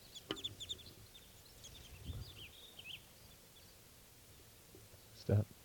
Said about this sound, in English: This is one of the birds. Stop. Series of alarm calls. Wild bird.